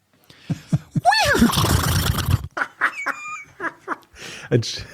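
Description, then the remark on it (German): A person does a loud, wavering horse-whinny impression lasting about a second and a half, followed by short bursts of laughter and talking voices. “Dass ich sehr gut ein Pferd nachmachen kann. Wollt ihr es mal hören?”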